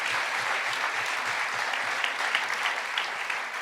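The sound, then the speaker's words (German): A crowd claps steadily and densely for a few seconds for a young man in a cap, the first volunteer, a sustained wash of many hands at fairly even loudness, with no talking over it. “Ein Applaus für den jungen Herrn mit der Mütze.”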